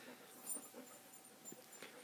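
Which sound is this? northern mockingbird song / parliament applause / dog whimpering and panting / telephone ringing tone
dog whimpering and panting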